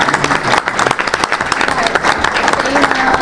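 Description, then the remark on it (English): A roomful of people applauds, a dense, steady wash of many hands clapping at once, fairly loud, sustained for a few seconds with faint voices mixed underneath. “I think, you know, you deserve a round of applause because you did a great job.”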